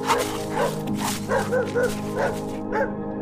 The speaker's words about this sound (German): Die Hunde freuen sich über die Abwechslung und springen schwanzwedelnd um dich herum.